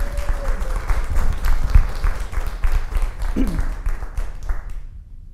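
An audience applauds with dense, steady clapping that holds for about five seconds, with a brief voice or whoop partway through, before the clapping thins and fades out.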